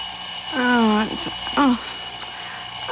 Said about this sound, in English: Why do I always have to turn off the alarm?